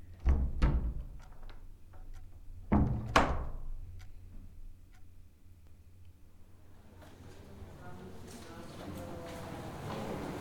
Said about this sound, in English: Yes, you can leave. Shut the door on your way out.